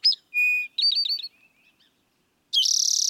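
A towhee sings alone, clear: a sharp chirp, a steady whistled note, a quick run of clipped notes, then a brief pause before a loud, buzzy rapid trill.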